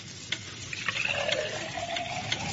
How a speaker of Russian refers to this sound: Черная королева вылила жидкость из флакона в котел.